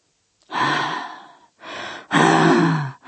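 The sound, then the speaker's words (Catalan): A voice imitates a husband's wheezy, labored gasping during a nervous asthma attack: several strained, noisy inhalations and exhalations in uneven bursts, fairly loud, with short pauses between. “el meu marit tenia asma. Era una cosa nerviosa.”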